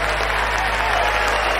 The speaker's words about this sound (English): The crowd cheers.